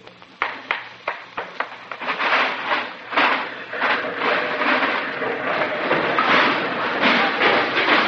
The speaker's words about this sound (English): Now, hand me that electric drill, and while I'm drilling, you sock the wall with this hammer. Then the whole thing will fall down.